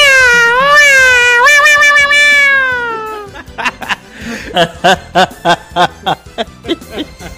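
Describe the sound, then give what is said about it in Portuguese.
A person at the Estoque Lá store does a long, wavering imitation of a cat's meow, loud, followed by a quick run of short, rhythmic vocal bursts. “Consegue imitar aquele gatinho aí que tá todo mundo esperando aí,”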